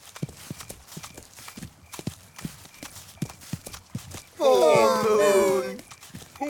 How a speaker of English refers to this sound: The sheep, the duck, the cow and the hen walk and walk.